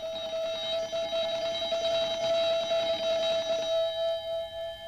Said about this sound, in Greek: Οι Λιλιπούπολίτες με επικεφαλή στο δήμαρχο Χαρχούδα φτάσανε αμέσως στο κάστρο του δόκτωρα Δρακατόρ. Και ο δήμαρχος Χαρχούδας σηκώνει ψηλά το δάχτυλο και χτυπάει το κουδούνι.